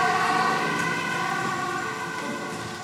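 An ambulance siren wails steadily and loudly as the ambulance departs urgently on an A1 emergency call, its tones holding through the stretch and fading slightly toward the end, with a vehicle engine rumbling underneath.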